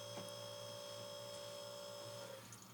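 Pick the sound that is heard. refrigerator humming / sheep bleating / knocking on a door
refrigerator humming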